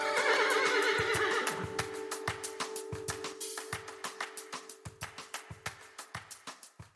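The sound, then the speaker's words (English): A horse gives a loud, shaky whinny, then steady clip-clopping hoofbeats follow at an even trot and slowly grow fainter. No one speaks. “Well, in just a moment, after the horse noise.”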